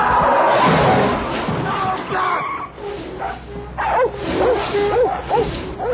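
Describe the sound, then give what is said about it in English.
Several dogs bark and yip excitedly at a truck, a rapid overlapping burst of high, sharp calls and whines, with some voices and general commotion mixed underneath. “Dogs, I want you to go home. Get off my bumper!”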